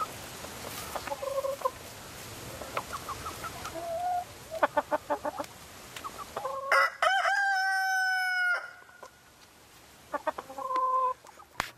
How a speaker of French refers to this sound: L'observation du coq de bruyère montre en effet qu'il secoue la tête de manière singulière lorsqu'il pousse son cri, là où le coq fermier se contente de tendre le cou pour chanter à gorge déployée.